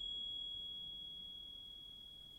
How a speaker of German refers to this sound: Oh, ich habe noch Zimbeln. Geht noch besser. Klingt doch schon besser nach Liebe, oder?